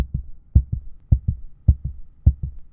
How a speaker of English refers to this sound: As our fingers touched, she gripped my hand and held it there, dead eyes burning into mine, mouth moving soundlessly, heart beating harder and harder, impossibly hard in her chest, in her fingertips.